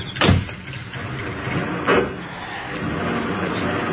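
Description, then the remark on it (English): Someone climbs into a car and a car door thumps shut, with a second softer door sound shortly after, followed by a low steady rumble of an idling engine, just after rain has stopped. “Well, thank you for escorting me so ceremoniously to the car. Hop in and let's go.”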